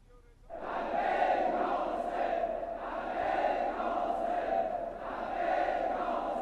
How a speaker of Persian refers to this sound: میشنوی؟ قریب لبک یا حسین جماعت کوفه را میلرزاند.